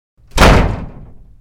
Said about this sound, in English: I hate it when people slam doors.